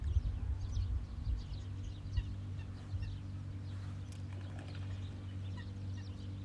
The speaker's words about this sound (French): Et le silence s'interrompt car un bateau moteur arrive. Vous l'entendez?